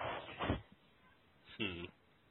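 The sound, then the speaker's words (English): A baby vocalizes in two short, whiny bursts, the first around the start and the second more tonal and wavering a second later, with no talking. “Still might be a little quiet, baby invasion. Yeah, I heard it. Baby's invaded.”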